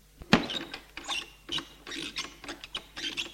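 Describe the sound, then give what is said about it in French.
A key turns in a door lock, locking the door: one sharp metallic click, then a run of uneven scraping, ratcheting clicks as the mechanism works, with no voices. “Ferme la porte à clé pour qu'Iris ne puisse pas intervenir.”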